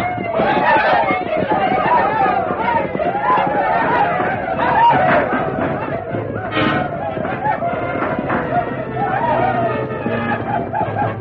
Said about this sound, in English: Sweeping down on the wagon train, the outlaws fired wildly and yelled at the tops of their voices.